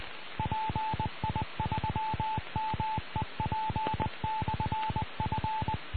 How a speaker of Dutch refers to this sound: En dat was de callgever van de Meppeler Repeater. Dat is Papa India 4, Mike Echo Papa. Goed, en dit is Papa India 4, Mike Papa Lima. Nee, dat was Papa India 3, volgens mij. Papa India 3, Mike Echo Papa.